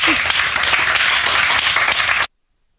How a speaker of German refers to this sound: Applaus